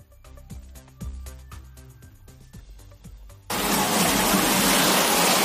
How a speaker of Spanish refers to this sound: Así sonaba la tromba de agua que ha caído en la localidad extremeña de Zafra, pero que también se han visto afectados otras localidades como pueden ser Mérida, Almendralejo o Villafranca de los Barros en la provincia de Badajoz.